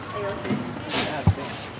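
A single quick sneeze, a sharp breathy burst of hissing noise followed by a brief thump, set against a low murmuring background, in windy weather.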